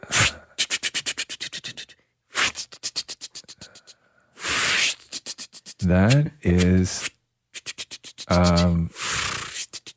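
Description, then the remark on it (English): A voice imitates dialing a phone number on a rotary phone as a clue in a sound-guessing game: several rapid trains of mouth clicks, each broken up by hissy, breathy whirs and a few buzzy voiced sounds, with a brief spoken phrase. “Dialing a phone number on a rotary phone.”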